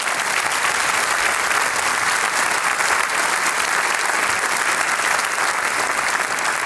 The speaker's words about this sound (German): Noch einmal einen herzlichen Applaus.